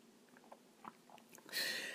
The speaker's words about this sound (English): Sorry, another sip. Talk amongst yourselves.